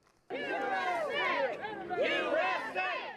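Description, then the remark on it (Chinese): A street crowd of residents of Murrieta, in Southern California, chants "USA" loudly in unison at a Border Patrol station, protesting federal buses carrying migrants. Many voices rise and fall in a steady, rhythmic shout that starts abruptly and carries on for about three seconds. “民众高呼 USA 美国。”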